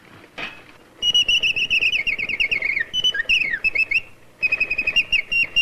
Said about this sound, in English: Wind him up, Dad. We heard this other bird sing. All right, this'll show you.